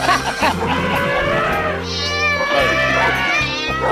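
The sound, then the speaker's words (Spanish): A voice singing a song at a very high pitch imitates a cat with long, wavering meow-like cries that run for several seconds, loud, over a steady low hum. “Los gatos.”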